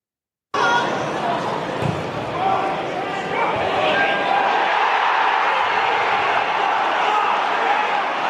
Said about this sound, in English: The raucous Arbroath crowd there at East End as a header went through the Pars goalie to make it 1-1.